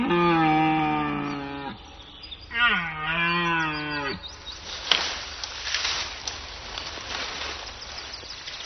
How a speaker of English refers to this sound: Male red deer are starting their rut. The air is heavy with the scent of females.